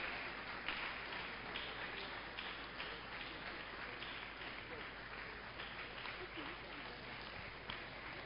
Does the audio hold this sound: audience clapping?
yes